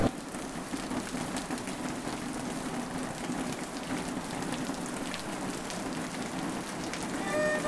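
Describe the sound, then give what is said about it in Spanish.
Steady rain patters on a hard surface, a dense, even hiss of countless drops with a few sharper taps, continuing without pause and no voices. “Yo soy Eva y llovió.”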